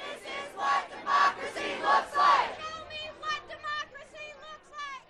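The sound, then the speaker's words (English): A crowd of residents at the entrance to Hoover City Hall in Hoover, Alabama, waiting to meet Congressman Gary Palmer at a Saturday town hall, raises its voices together in loud, rhythmic bursts of shouting, roughly once per second, then settles into a busier murmur of many overlapping voices. “Residents flooded the entrance to Hoover City Hall, waiting to meet with Gary Palmer.”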